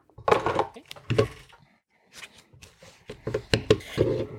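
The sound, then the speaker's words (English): A deck of cards being shuffled during a tabletop role-playing game: quick crackling riffles come in a few bursts, with a short pause in the middle before a longer run of shuffling at the end. “Okay, so I have 1 success so far, and I need to shuffle.”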